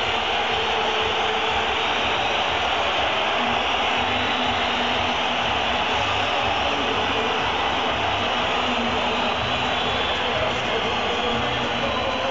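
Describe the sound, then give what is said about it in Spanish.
A huge crowd of Atlético de Madrid fans at the Metropolitano stadium roars and whistles at the referees walking to the tunnel, a steady, dense wall of noise that stays loud and unbroken throughout, with no clear individual voices standing out. “Se escucha cómo ruge, cómo grita, cómo pita la afición del Atleti.”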